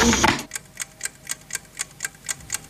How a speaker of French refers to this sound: Précis, très précis, la pendule, le réveil, très précis. Mais regardez un peu de l'autre côté avec quoi c'est fait. Ah, avec des ressorts, avec des élastiques, quoi.